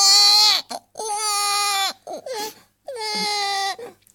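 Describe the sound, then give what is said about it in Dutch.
A baby wails in three long, sustained cries, each broken by a short gasping breath, loud and insistent with no one talking over it. “Ik denk dat ze honger heeft.”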